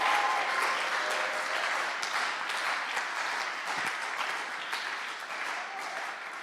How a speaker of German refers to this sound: Und deswegen gibt man einen richtig fetten Applaus für Psalm 92, 13 bis 16.